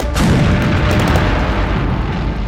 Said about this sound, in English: Listen, the sound of the explosions makes you afraid to step back.